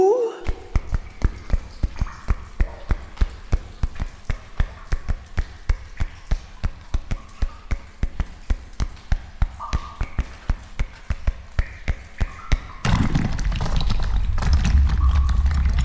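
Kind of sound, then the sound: impact, knocking on a wall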